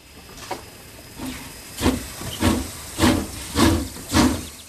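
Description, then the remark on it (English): A steam train chuffs and hisses in a steady rhythm, about seven broad bursts that grow louder and quicker as it starts pulling away, with no voices. “Come on, children. Let's get on the train.”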